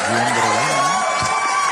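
A small group of people in a corner, who applaud every time something nice is said, claps and whoops together, a rising, wavering cheer riding over a steady wash of applause. Lively and sustained for the whole short burst.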